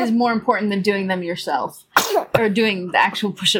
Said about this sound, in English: We're working on the loud, explosive sneezes with him. He's coming along. He's getting there.